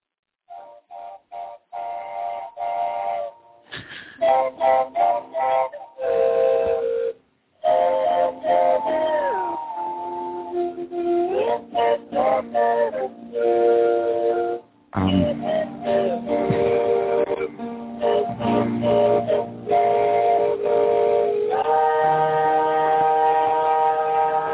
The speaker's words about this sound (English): …. Yeah. With slide whistles and kazoos.